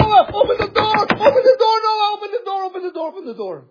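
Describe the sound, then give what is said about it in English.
A quick flurry of loud knocks on a wooden door in the first second or so, mixed with a raised, wailing voice that carries on alone in a long, drawn-out cry. “I can see a lot of people knocking upon Noah, upon the ark. Noah, open the door!”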